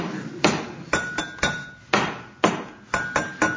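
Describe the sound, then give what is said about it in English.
A spoon bangs on a table at a place serving tea, about nine times in a loose, steady rhythm. Each sharp knock is fairly loud, with a faint metallic ring on some strikes; no one speaks. “I was banging me spoon on table.”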